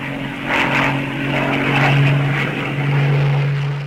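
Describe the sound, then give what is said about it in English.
A British Tempest V piston-engined fighter plane with a Sabre engine drones loudly and steadily, its deep propeller hum and roaring engine sustained throughout with slight swells, with no voices. “She embodies all the best features of the Typhoon, and her redesigned wing and later Sabre engine give her outstanding performance at all altitudes.”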